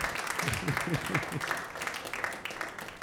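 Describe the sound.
An audience applauds steadily for about three seconds, a dense wash of many hands clapping at fairly even loudness, with a voice briefly calling out over it near the start.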